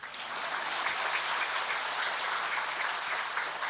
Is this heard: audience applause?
yes